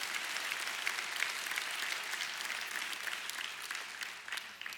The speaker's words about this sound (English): Could somebody give me more than a golf clap right now? Come on, let's put our hands together and say yes. Hallelujah.